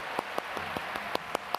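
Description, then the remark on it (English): An audience claps in unison, clapping their hands until they get a little warm, sharp hand claps landing in a quick, even rhythm, about eight in under two seconds, over a steady wash of background noise. No one speaks. “Clap them till they get a little warm.”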